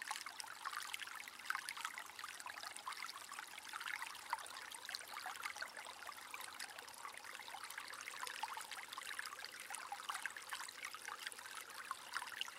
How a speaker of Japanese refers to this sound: 次に耳に入ってくる水の音に意識を向けます。